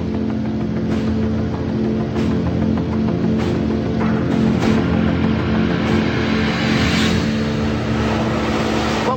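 A motorboat engine drones steadily and loudly as the boat travels up a river through jungle in Colombia, its low hum constant throughout, with a broad rushing wash of water over it and no voices.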